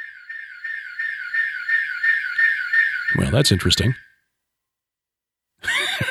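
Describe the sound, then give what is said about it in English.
A fire alarm test at the Skywatch TV studios sounds a loud, steady electronic tone with rapid repeating pulses for about four seconds, cutting off just as a man briefly speaks over its end. “Test of the fire alarm going on here at the Skywatch TV studios.”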